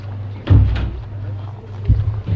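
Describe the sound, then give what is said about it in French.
A man opens a door with a sharp wooden clunk and rattle, followed a moment later by two softer thuds, all over a steady low hum in the background. “Il ouvre une porte.”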